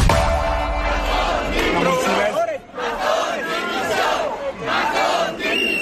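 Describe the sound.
A large protest crowd marching through the streets of Valencia chants and shouts in unison, demanding Carlos Mazón's resignation on the day marking seven months since the DANA; a loud, steady roar of many voices with rising and falling cries and a brief dip midway.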